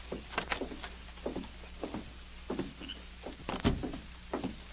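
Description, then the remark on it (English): Clicks and metallic rattles of a key, chosen from a bunch of keys, working the lock of the main building's door in a company compound, followed by a heavier thunk as the door swings open. No one speaks, and a faint steady hum sits underneath. “He took a bunch of keys out of his pocket, selected one, and then opened the door.”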